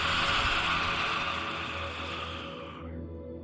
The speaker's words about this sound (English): That means you inhale through your nose, and then as you exhale, you stick out your tongue and sigh or make a roar sound, really letting go of the frustration or the anger.